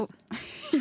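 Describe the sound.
A person voices a single short, breathy dog bark imitation, fairly loud, with a rough noisy burst that trails into a brief throaty tone.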